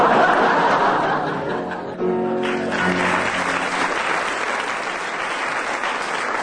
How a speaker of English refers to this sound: Well, judging by the audience applause, Willie gets 15 for that and doesn't really need to do another one.